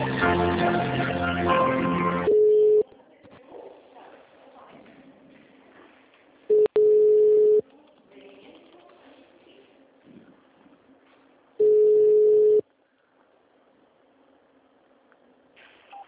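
telephone ringing tone

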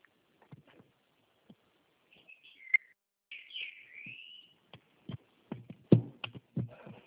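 small bird singing

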